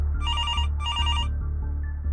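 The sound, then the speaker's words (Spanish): An office telephone rings in two electronic trilling bursts, clear, over a low steady hum, then falls silent. “De repente, sonó el teléfono de la oficina.”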